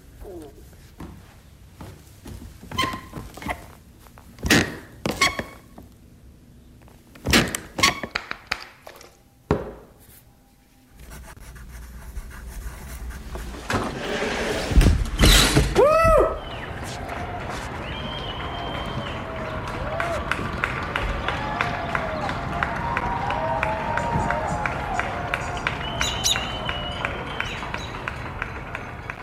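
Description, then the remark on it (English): Sharp wooden creaks and clicks from one squeaky part of the floor of a house, with a rising squeal midway, then the creaks looped and layered in a sound collage into a dense, steady rhythmic texture that fills the rest. “So what you're about to hear is this one squeaky part of the floor of my house.”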